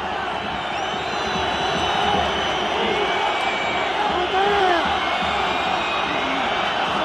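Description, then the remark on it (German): A packed Camp Nou stadium crowd at a Barcelona versus Espanyol football match whistles loudly in protest because a Barcelona player lies on the ground near the Espanyol corner flag. Dense shrill whistles slide up and down over a constant roar of voices, sustained and unbroken throughout. “Der Grund fürs Pfeifkonzert ist aber natürlich, dass ein Barca-Spieler in Nähe der Espanyol-Eckfahne auf dem Boden liegt.”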